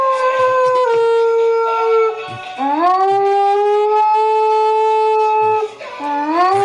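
dog howling

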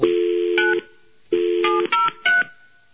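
telephone line tones

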